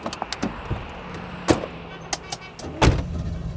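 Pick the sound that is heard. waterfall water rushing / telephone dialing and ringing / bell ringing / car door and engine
car door and engine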